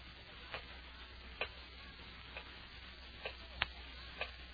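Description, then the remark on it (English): A clock ticks slowly and faintly, with soft clicks roughly once a second against a low background hiss. There is no talking. “Terrible clock.”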